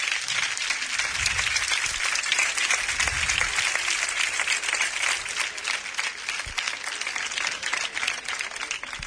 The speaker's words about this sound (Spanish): Alejandro Conquero, venga usted para acá. Un aplauso para Alejandro Conquero.